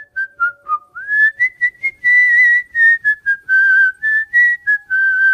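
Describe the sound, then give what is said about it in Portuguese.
A clear tune whistled by a person, a wandering melody of short and held notes with brief pauses between phrases, played alone with no talking. “Exatamente às 3:03, ouvimos o assobio.”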